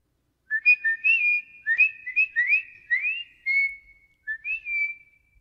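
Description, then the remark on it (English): Whistled bird song of a little yellow bird: a lilting run of clear, high chirping notes that slide up and down in quick phrases, with short pauses, a longer held tone near the end, and no talking. “The bird sings us a song.”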